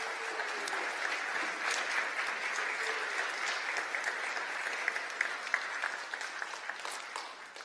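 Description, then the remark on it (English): A steady round of applause from a crowd at a church service, many hands clapping in a dense, even wash of sound that holds for several seconds before thinning slightly at the end. “Would y'all give them a round of applause?”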